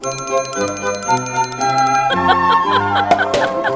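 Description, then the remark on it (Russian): A small golden handbell, rung by a baron in a house in Paris, rings out in bright, sustained tones, its pitches shifting in a quick sequence, fairly loud, with no one talking over it. “Барон позвонил в золотой колокольчик.”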